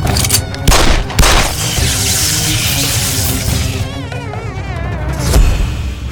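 A whining, wavering buzz from a mosquito on the ceiling runs beneath a burst of sharp, booming gunshots from a Beretta fired at it, several loud bangs at the start and another near the end, over a dense, busy background.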